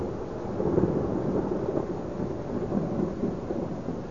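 A steady, deep rumble of thunder rolls on for several seconds with no talking, a dense low roar suggesting a storm with rain hissing faintly in the background.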